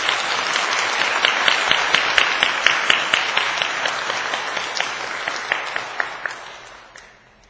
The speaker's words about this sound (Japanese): まずは今朝の、そしてまず先生を皆さんお顔をご存知の方もいらっしゃると思いますが、初めての方もいらっしゃると思いますので、まず歓迎の拍手を持ってお迎えしたいと思います。